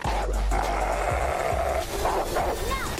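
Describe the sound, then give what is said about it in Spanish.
A dog barks and snarls aggressively as it goes to attack a girl, a loud, continuous burst of agitated canine noise lasting a few seconds, with sharp yips near the end. “Va el perro a atacar a la niña y la niña le hace así con la mano y para al perro.”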